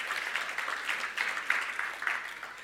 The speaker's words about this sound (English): Can you give me a clap? Just give me a round of applause.